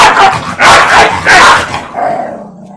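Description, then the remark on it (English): A dog barks loudly, three harsh barks in quick succession followed by a fading, lower yelp-like tail. No voices are heard. “Get this dog out of here now.”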